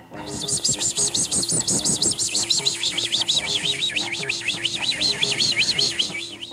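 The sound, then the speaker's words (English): A bird chirps in a rapid, continuous series of high, warbling trills lasting the whole time, fairly loud, over a low, busy background of rustling and murmuring sounds. “The bird does.”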